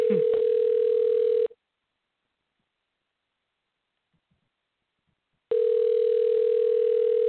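A steady telephone dialing tone on an outgoing call to an interview guest hums for about a second and a half, falls silent for several seconds, then starts again, clear with no voices.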